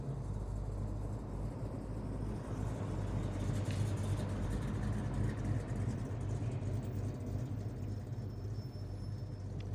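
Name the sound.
car driving past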